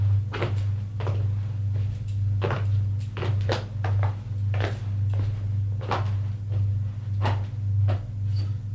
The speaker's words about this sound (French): Ted ouvre une porte vitrée.